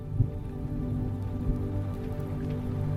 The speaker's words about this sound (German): Und angenehme Regenklänge entfalten sich. Sie begleiten dich in dieser Nacht.